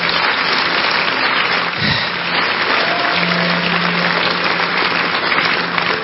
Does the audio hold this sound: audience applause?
yes